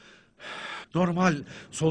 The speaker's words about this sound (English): so is the way that I am currently breathing quickly